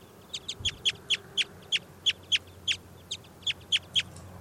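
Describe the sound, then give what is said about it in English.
A wild bird just pulled out of a net calls in a quick run of about fifteen sharp, high chirps, fairly steady in rhythm and clear against a low background hum, with no voices. “I've just pulled that wild bird out of the net.”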